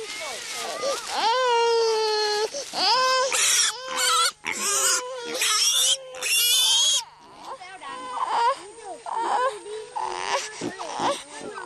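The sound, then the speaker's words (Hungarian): A piglet squeals loudly and repeatedly, shrill rising cries alternating with harsh, noisy shrieks in quick bursts, then settling into shorter, whiny grunting squeals. “Egy kismalac. Igen, egy gyerek és egy kismalac.”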